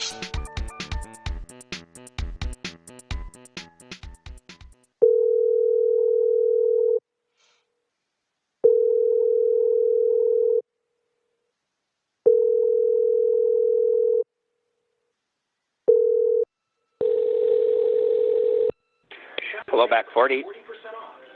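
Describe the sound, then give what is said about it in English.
Clattering noise gives way to the line tone of an outgoing phone call to Back 40: a steady, low-pitched hum repeating in several long, evenly spaced pulses, before a voice begins to speak. “do you wanna make a call?”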